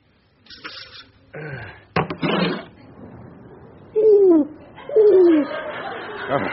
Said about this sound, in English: The pigeon's out on the windowsill,